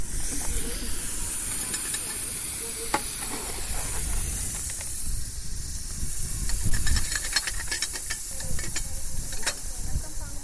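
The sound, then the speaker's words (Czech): A steam locomotive hisses steadily, a continuous broad rush of steam over a low rumble, with scattered sharp clicks and knocks throughout and no voices. “Takže ten parní stroj, ta parní lokomotiva, to je na obsluhu náročná.”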